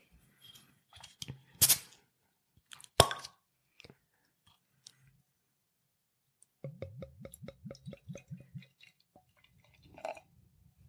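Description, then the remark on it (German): A bottle of Tiroler Zwickel beer (5.7% ABV) from Zillertal Bier GmbH of Zell am Ziller is opened with a sharp pop and a clink, followed by a few seconds of rhythmic glugging as it is poured into a glass. Fairly quiet, with no talking. “Jo, dann mache ich doch das Fläschchen mal auf.”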